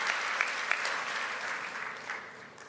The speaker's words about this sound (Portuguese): A Ele você aplaude. A Ele você dá glória. Agora todos nós.